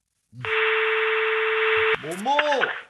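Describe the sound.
A single long, steady telephone ringing tone, buzzy and unbroken for about a second and a half, stops abruptly as a voice answers; the call is to Patrick Balkany's phone in his prison cell at La Santé.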